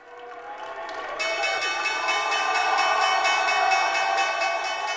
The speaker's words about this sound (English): ringing the opening bell at the New York Stock Exchange last year. He was cheering and pumping his fist in that video